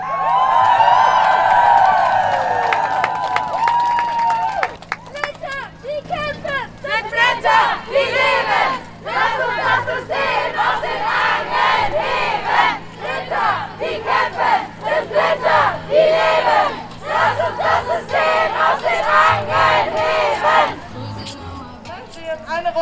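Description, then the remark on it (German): A crowd at a Walpurgis Night protest against capitalism and patriarchy shouts loudly and continuously, voices overlapping in rising battle cries and high whoops that swell together for over twenty seconds, with brief dips before the yelling surges again. “Lasst uns schreien, denn wir sind laut und wir sind da!”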